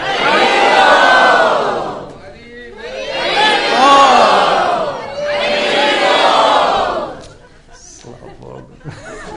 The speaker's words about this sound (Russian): Ай, Харибол! Давайте все крикнем Харибол!